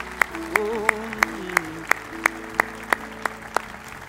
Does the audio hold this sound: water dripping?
no